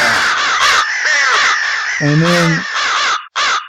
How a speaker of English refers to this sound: And that's the source of that first bit of crow.